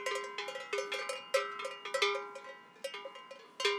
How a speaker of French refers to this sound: Et en haute montagne, les cloches sont bénéfiques parce que lorsqu'il y a de la brume, on peut situer les bêtes à la cloche.